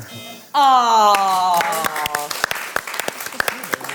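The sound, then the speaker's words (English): A loud, harsh game-show buzzer blares for about a second, its rich nasal tone sagging slightly in pitch, then gives way to a patter of applause and clapping. “Well, I was going to go on to say we had a joint wedding, but the buzzer went.”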